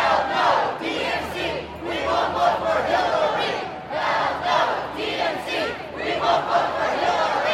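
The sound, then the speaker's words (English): A large crowd of pro-Bernie Sanders protesters shouts in the street in the middle of Philadelphia in heat of 95 degrees or more, a dense roar of many voices rising and falling in loud surging waves, with no single speaker standing out. “those pro-Bernie protesters were out on the streets yesterday, 95 degrees or more, a big crowd of Bernie supporters gathered in the middle of the city.”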